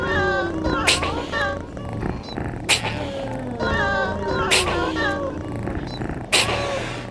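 A cat's meows, sliding up and down in pitch, repeat over a steady hip-hop beat with booming bass and a sharp crack landing roughly every two seconds, all fairly loud and close.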